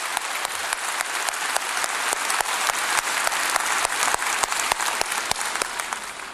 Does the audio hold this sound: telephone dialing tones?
no